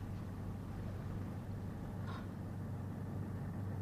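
A motorboat engine drones steadily, a low continuous hum with a faint brief blip midway and no voices.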